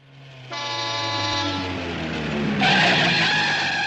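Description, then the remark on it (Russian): A car engine rumbles low, joined by a loud, sustained squealing tone as it slows, ending in a bright hiss of brakes as it pulls up at a house. No one speaks. “Подъехали к дому”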